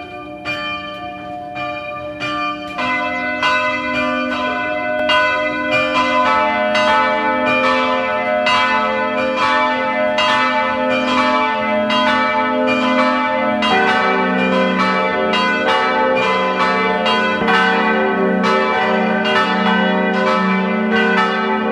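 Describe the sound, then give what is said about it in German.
Several bells of the parish church of Pack, a mountain village in West Styria, Austria, ring together at noon in a steady, overlapping peal, loud and resonant, with strikes repeating rhythmically throughout and rich lingering overtones; no voices are heard. “Sie hören die Glocken der Pfarrkirche Pack in der Steiermark.”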